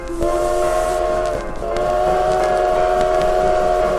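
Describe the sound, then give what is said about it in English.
A train rumbles along while its whistle sounds in long, steady blasts, loud, pausing briefly partway through before sounding again over the clatter of the cars. “Aren't you a little bit young to be driving the train?”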